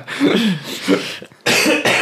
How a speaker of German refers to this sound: Ich hab gerade einmal gehustet vor Lachen.